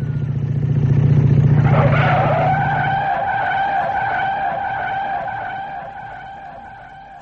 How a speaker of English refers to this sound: Motorbike. That's it. Now, stay where you are. There's a bike coming and it's too fast. Now, move back. There. It's our motorbike,